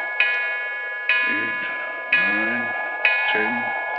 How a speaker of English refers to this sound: What a clock. Sounds like the knell of doom.